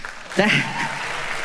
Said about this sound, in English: That is the saddest thing you could ever applaud.